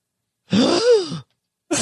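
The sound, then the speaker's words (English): A single exaggerated, drawn-out gasp in a Southern accent from one person, breathy at first and then sliding up and down in pitch like a theatrical sigh, fairly loud, followed by a brief cut-off sound. “I didn't know this was a thing, but apparently you can gasp with your Southern accent.”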